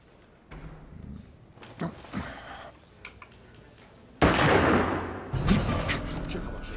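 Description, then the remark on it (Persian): Gunshots from a jail lockup: a few faint, sharp cracks early on, then a sudden loud blast followed by a sustained noisy roar with another burst on top, fading only slightly toward the end. “این که اگه صدای شلیک بیاد همه پلیس ها سراسیمه میریزن اینجا.”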